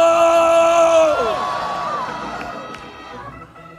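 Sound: audience screaming loudly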